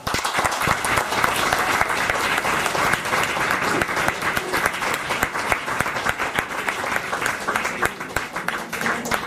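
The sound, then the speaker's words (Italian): Sustained audience applause after a speech by Monsignor Cantizzani fills the whole stretch, a dense, steady wash of many hands clapping with no pauses, loud and even throughout. “Grazie Monsignor Cantizzani, l'applauso che sta bene perché non era omeria, quindi dopo l'omeria solitamente si sta in silenzio e in raccoglimento, questo è invece un intervento che ci ha toccato particolarmente.”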